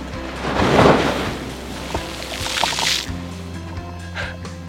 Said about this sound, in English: Uh-oh, here comes a wave.